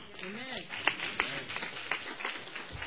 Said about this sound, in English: Amen. I'm glad y'all clapping.